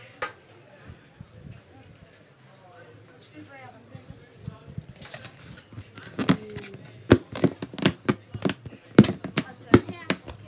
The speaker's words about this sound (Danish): Hvad var det for nogle lyde, der var særlig uhyggelige? En ballon. En ballon? Sådan en, der hænger derovre?